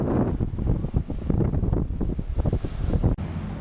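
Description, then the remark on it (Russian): Strong wind buffets the microphone in loud, uneven gusts over a steady wash of ocean surf rolling on a beach about 60–70 metres away, recorded from a concrete parapet near a hotel, with no voices. “А вот сейчас мы видим пляжующихся, сам пляж и океанчик.”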